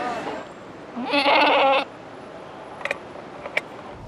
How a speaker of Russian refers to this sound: Знакомьтесь, Шоколадка и Сакура – настоящие городские козы.